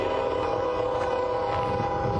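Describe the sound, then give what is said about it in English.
A loud freight train rumbles past along the railroad tracks, its steady roar and a sustained horn-like tone filling the whole stretch without pause; no one speaks. “You get to see how loud this freaking freight train is.”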